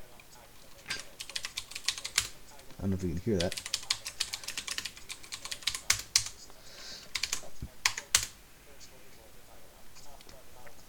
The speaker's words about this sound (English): So I can say, I'm actually just put my headphones on top of the desk, and my Yeti's the sound card I'm using, so I could like type on my keyboard.